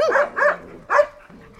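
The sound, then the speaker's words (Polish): Three sharp dog barks ring out in quick succession in an animal shelter kennel, loud, with a brief pause before the last one and a faint low rumble lingering afterward. “To są zdrowe psy, nic im nie dolega, w miarę tam młode, powiedzmy około 5 lat.”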